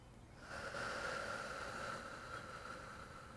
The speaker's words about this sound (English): Just in through your nose and out through your mouth. Keep going, one more.